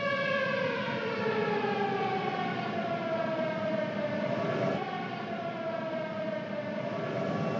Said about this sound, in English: Now, can you hear the siren? Yes, I can hear the siren.